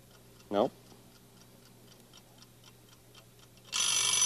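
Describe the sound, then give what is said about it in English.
A mechanical alarm clock with bells ticks steadily and evenly, with a brief voiced sound early on, then a loud, dense scraping rasp takes over at the end as the hands are wound around to set the alarm for 1 o'clock. “Pull that out. And make this go around to 1 o'clock and see if it'll ring.”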